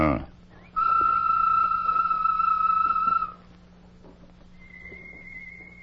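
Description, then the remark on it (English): A person whistles a bird call, given by Tonto as a signal in a Lone Ranger story: one loud, steady whistle held for about two and a half seconds, then a fainter, higher whistle answers over a low background hum. “Give a bird call, Tonto.”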